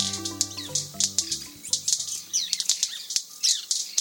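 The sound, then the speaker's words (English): Sharp, firecracker-like wing snaps of male white-bearded manakins performing a group display on the forest floor in Trinidad pop in quick irregular bursts, several birds snapping, with a sustained musical tone fading early and thin chirps scattered between. “These firecracker-like pops are coming from the wing snaps of male white-bearded mannequins performing in a group display.”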